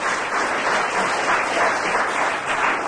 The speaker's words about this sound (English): Oh, and applause.